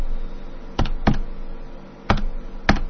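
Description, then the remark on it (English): A phone number being dialed on the radio show Radio Freak America: four sharp, separate clicks of button presses in an uneven rhythm, two together, then a pause before two more, over a faint steady hum with no talking. “All right, we're dialing him up now.”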